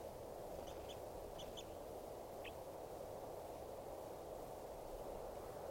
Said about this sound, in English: The wild birds who have come in, look like about two birds, are in song.